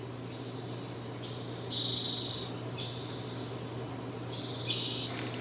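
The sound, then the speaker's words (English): A hushed, nearly silent forest at Sugarloaf on April 15, 2015, during a drought, with the stream dried up and no wind. A few faint bird calls come and go as thin high trills over a low steady background hum. “There was no wind, there was no stream. I mean, it was really silent.”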